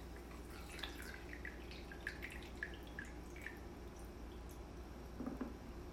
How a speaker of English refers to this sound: I'm pouring my coffee now.